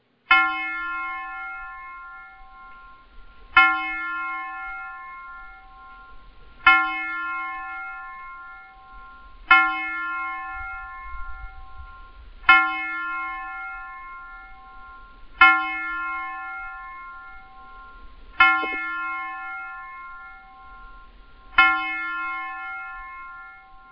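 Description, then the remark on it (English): A bell tolls eight times at a slow, steady pace, each loud ringing strike sustaining and fading before the next. No voices are heard. “I'm going to play a bell”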